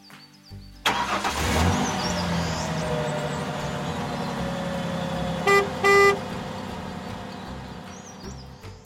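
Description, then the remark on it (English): A large truck delivering goods rumbles steadily as it drives by, then two short, loud horn blasts sound in quick succession before the engine noise continues. “My daddy is a truck driver. He drives around delivering goods.”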